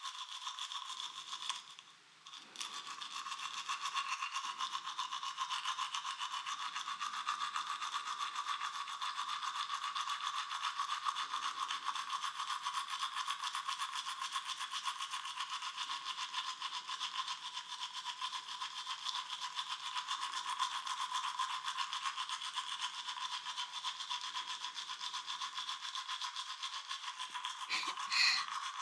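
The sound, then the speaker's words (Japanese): Soft-bristled toothbrush scrubbing steadily against teeth, a continuous gentle scratchy hiss with a short pause near the start, then unbroken brushing to the end. No voices are heard. “私たちに子供ができたらさ、やっぱりこうやって歯磨きしてあげるのかな。”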